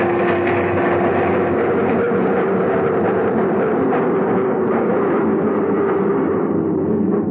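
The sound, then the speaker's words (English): A train rumbles and clatters steadily, a loud, continuous mechanical roar with metallic ringing that eases slightly toward the end as it slows into the 59th Street station. No voices. “Stopped at the 59th Street station, and he got up to leave.”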